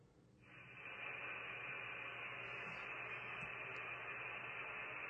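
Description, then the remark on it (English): A ham radio transmission comes in as a sudden burst of steady static hiss, swelling within the first second and holding loud and even, with a faint low hum beneath and no clear voice. “Oh, he's transmitting now.”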